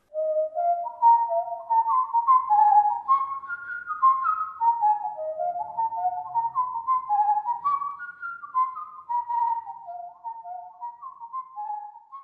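A lively traditional Irish jig whistled by a single person, quick ornamented notes running continuously in a bright, clear tone, close and steady throughout with no talking.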